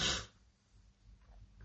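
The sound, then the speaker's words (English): A short, throaty burp bursts out at the start, then fades into a low, rumbling exhale with faint gurgling. No one speaks. “Gosh, sorry, I need to burp.”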